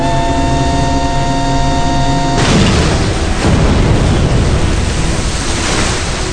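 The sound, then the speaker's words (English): A steady humming drone is cut off by a sudden loud bomb blast that swells into a long, rumbling roar, with another surge of explosion about a second later. No voices. Charges are set off to blow up chemical-filled silos outside a building. “Time is running out, and we don't want to be here when the bombs go off.”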